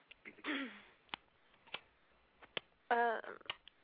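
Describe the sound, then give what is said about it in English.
Sharp mouth clicks at a slow, uneven beat, a person imitating the tick of a clock, with brief bursts of voice or laughter in between. “are you ticking like a clock over there?”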